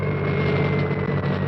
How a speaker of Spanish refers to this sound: Efectuado chequeo, pongo motores en marcha. El helicóptero se prepara para el despegue.